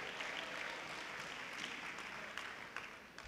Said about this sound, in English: Clap your hands to the Lord and you may be seated. Go down clapping. Give God glory.